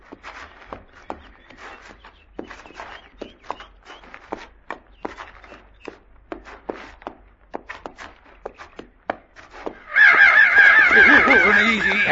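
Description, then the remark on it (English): Loud, harsh cawing and squawking from large crows bursts in suddenly near the end, raucous, after a stretch of steady crunching footsteps. “They're sure big for crows.”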